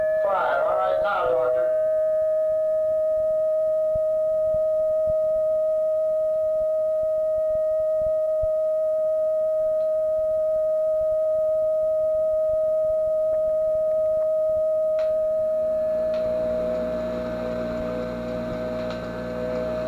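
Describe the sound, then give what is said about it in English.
A steady electronic tone from a transceiver feedback device set up in an energy loop hums continuously, with fainter higher tones forming above it without any tone generator, a brief crackly burst at the start and a hissing wash of noise creeping in near the end. “You will note, as you listen to this, that tones start to form.”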